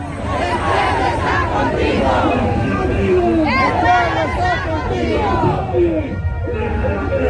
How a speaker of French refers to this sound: Voilà, l'avion est en face du public, fait son demi-tour, va se mettre face à la piste d'envol et le public continue de scander, chanter, hurler, pleurer, tous les drapeaux au vent, les drapeaux rouges de l'Union démocratique